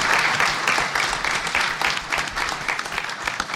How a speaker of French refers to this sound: Vous pouvez l'applaudir, ouais, tout à fait.